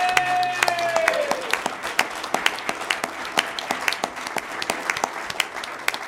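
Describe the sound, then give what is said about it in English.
An audience applauds a candidate at a League of Women Voters of the La Crosse area event, a dense, steady patter of many hands clapping for about six seconds, with a brief high whistle-like tone fading near the start. “Round of applause for our candidate.”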